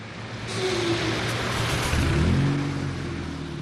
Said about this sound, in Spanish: Hace unos meses, precisamente, me subí a uno de estos coches, a un 2 caballos